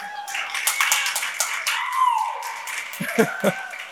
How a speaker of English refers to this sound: And way more important than that, some people are clapping.